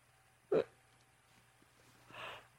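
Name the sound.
hiccup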